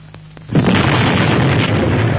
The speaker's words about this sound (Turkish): Patladı. Hangi hayvan attı bu bombayı?